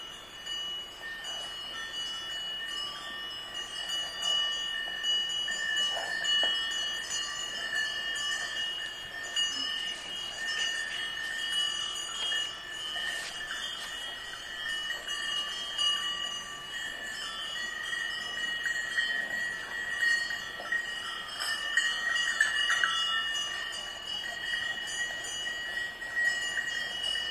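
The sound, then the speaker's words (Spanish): A herd of cows wearing bronze bells, used to locate the herds, in rural Galicia: a continuous jangling wash of metallic ringing from many bells clanking irregularly together, with occasional louder clangs and no voices. “Lo que escucharemos a continuación es un grupo de vacas con campanillas de bronce que eran utilizadas para localizar los rebaños.”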